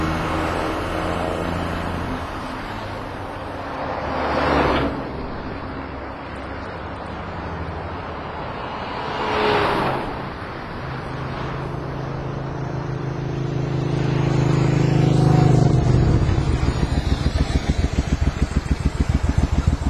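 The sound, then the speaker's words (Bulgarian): A car engine rumbles steadily, with a couple of brief whooshing swells, then the motor grows louder as a car pulls up on a road and settles into a throbbing idle. “Най-после някой да мине.”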